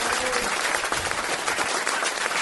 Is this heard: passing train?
no